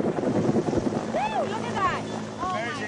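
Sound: helicopter flying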